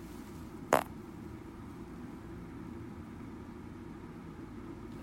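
small fart

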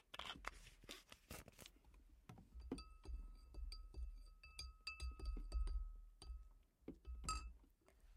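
glasses clinking

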